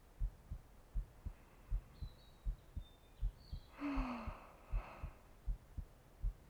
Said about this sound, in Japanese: うむうむ、胸がときめいて心臓が脈を打っておるぞ。ほれ、手を貸してみ。そら。どうじゃ、乳房越しにも心臓の音が聞こえるであろう。